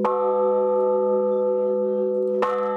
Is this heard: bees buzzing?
no